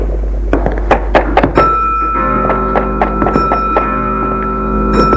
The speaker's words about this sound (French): Là, il entend le bruit, sourd, insupportable. Derrière la pièce où il y a ses papiers, frappe à la porte.